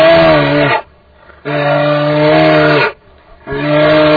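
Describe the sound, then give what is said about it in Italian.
A human voice imitates the mournful bellow of Alce Rufo, a dejected moose: three long, loud, droning calls, each held for over a second and separated by brief pauses. “Questa era l'Alce Rufo sconfortata, scornata di tutto questo.”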